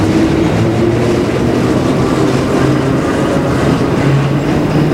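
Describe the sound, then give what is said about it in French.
A metro train arrives, rumbling loudly and steadily, a dense mechanical roar with low droning hums from motors and wheels, continuous throughout with no voices. “Un métro arrive.”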